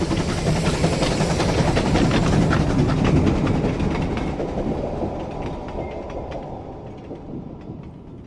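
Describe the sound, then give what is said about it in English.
A troop train roars past on the rails at Kirkpatrick, loud at first with rattling wheel clatter, then gradually fading as it moves away. No voices are heard. “He watches the troop train hurtle past.”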